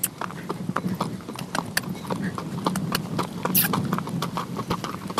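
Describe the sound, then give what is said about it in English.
Steady clip-clop of a ridden horse's hooves, many quick sharp strikes in an uneven rhythm, with a low rumble of movement underneath and no talking. “She sings as they ride, and her horse breathes a sigh, 'cause there's no place that they feel more free.”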